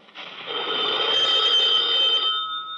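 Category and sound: household object, telephone ringing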